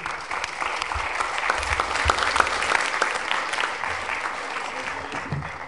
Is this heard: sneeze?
no